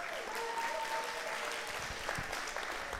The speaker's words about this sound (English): Give her a cheer as well. Woo!